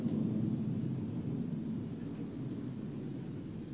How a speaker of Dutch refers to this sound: Wanneer u een ogenblik luistert, hoort u het gedavel van vliegtuigen over de stad.